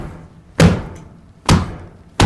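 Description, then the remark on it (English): A hammer strikes an ostrich egg on an ostrich farm three times in a steady rhythm to crack it open, each blow a sharp, loud knock with a hard cracking edge, separated by quiet low rumble. “We open every egg with a hammer.”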